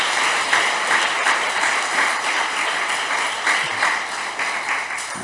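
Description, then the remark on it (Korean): An audience applauds, many hands clapping together in a dense, steady crackle that holds for about five seconds without anyone speaking. “네, 네, 손 내리시고 박수 한번 치세요.”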